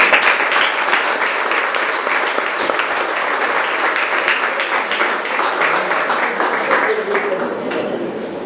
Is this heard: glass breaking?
no